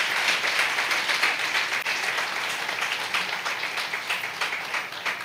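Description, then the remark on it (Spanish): A church audience breaks into sustained applause for a group of people, many hands clapping in a dense, steady crackle that holds at an even level for several seconds without fading. “Vamos a brindarles otro aplauso a todas estas personas.”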